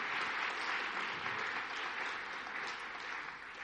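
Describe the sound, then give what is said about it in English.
A crowd claps steadily and loudly, a dense wash of many hands applauding with no pauses, holding an even level before easing off slightly at the end: a round of applause for the word of God and the kids during a church worship service. “Can we have a big round of applause for the word of God and the kids, please?”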